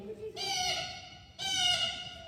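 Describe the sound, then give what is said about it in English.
A person imitates a blue jay, letting out two harsh, raspy jeering calls in quick succession, each loud, with a brief pause between them. “That is perfect blue jay.”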